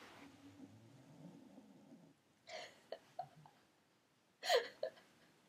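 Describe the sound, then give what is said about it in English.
Soft snoring from a woman: a low rumbling drawn-out breath, then a few short snorty huffs and sniffs. It is fairly quiet, with no one talking. “She always snores at just the right time.”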